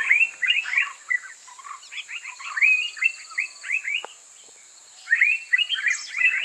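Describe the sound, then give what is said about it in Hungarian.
Song of a golden-coated bulbul (aranykabátos bülbül): quick bursts of bright, warbling chirps in short phrases, pausing briefly near the middle before resuming, over a steady thin high-pitched hum. “Az aranykabátos bülbül kiváló szórakozás, akár baráti összejöveteleken is.”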